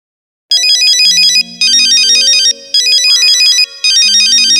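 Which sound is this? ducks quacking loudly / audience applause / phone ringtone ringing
phone ringtone ringing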